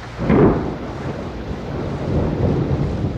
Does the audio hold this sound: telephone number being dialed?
no